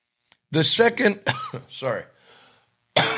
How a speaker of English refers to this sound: I don't know why I'm apologizing for involuntary coughing. There's nothing I could do about it.